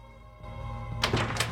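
In the TV show Heroes, Mohinder Suresh opens his door in Brooklyn to answer it: a latch clicks and the door thunks, followed by a second brief knock of wood over a low, steady hum. No voices.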